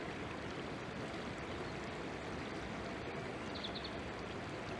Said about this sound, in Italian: Come vi avevo promesso, abbiamo il corso del fiume vicino. Sentite anche lo scorrere dell'acqua, è un bellissimo fiume, non importa quale, qualunque fiume, è un buon fiume.